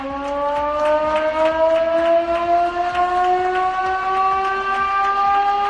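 A loud, sustained siren, the 'turullu' that announced the shift change of mine workers in Mieres, wails steadily, its pitch rising slowly as it holds a continuous drone with strong harmonics, with a faint crackling background and no voices. It sounded in honour of former mayor Aníbal Vázquez.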